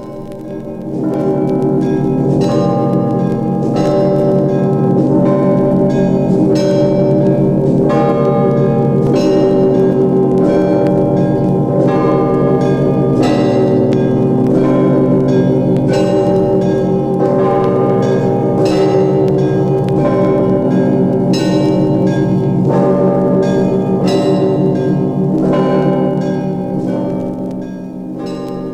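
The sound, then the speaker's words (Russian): Church bells rung by bell ringers, who start on the senior ringer's command, peal continuously and loudly, with rhythmic repeated strikes layering into a dense, ringing wash of overlapping tones, no voices present. “И потом начинают, значит, звонари уже без всякого, так сказать. А только старший скажет, начали.”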